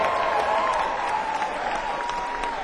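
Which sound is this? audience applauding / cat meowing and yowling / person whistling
audience applauding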